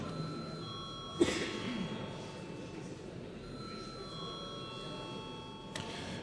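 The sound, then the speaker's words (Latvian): A parliamentary voting bell rings steadily for several seconds before a vote on a bill in its first reading, a sustained metallic tone over a hushed chamber, with a couple of sharp knocks breaking through near the start and end. “Lūdzu, zvanu.”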